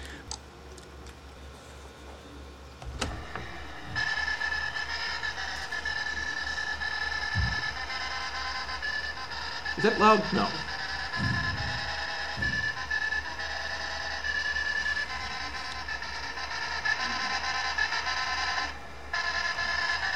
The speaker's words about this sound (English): …, being played by a IBM 1401 printer in the late 60s